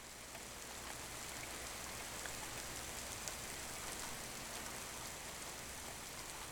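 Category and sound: nature, heavy rain pouring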